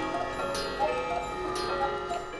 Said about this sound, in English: in Alexandria, Virginia, is a little like stepping into the past, into Geppetto's workshop, a small, crammed space completely filled with clocks and clock tools, grandfather clocks, cuckoo clocks, watches from World War II, the hour strikes, and...